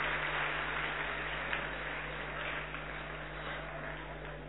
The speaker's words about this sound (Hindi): हम तालियों से आपका इस सत्र के अंदर स्वागत कर रहे हैं।